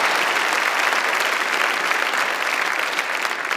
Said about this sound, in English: And so I know we're doing a lot of applauding. I think that it's important to do one more time as we welcome Michelle Norris up here to share in a little bit of conversation.